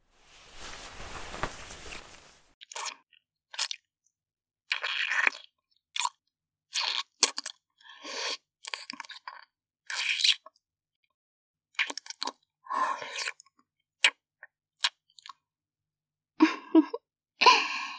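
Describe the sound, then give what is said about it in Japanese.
Deep kissing: a brief rushing hiss, then a long string of wet smacking, sucking mouth sounds, irregular and fairly soft, heard alone without speech. “いきなりのディープキスで顔がドローンとしちゃってるよ。”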